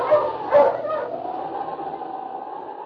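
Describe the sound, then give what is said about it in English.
King, Sergeant Preston's big lead dog, gives a few sharp barks, then breaks into a long, drawn-out howl that wavers and holds steady to the end, with no talking. “King, Preston's big lead dog, battled his way”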